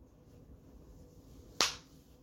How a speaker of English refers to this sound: That was one clap, by the way. That's all I can give Cody. After all he's done to me and the world at large, all I can give him is one clap for that just ounce of a presence, clarity, mental clarity on this whole situation.